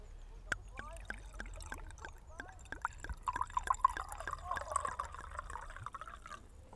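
Wine glugs steadily from a screw-cap bottle into a glass, a quick rhythmic series of gurgling pulses lasting several seconds, fairly quiet.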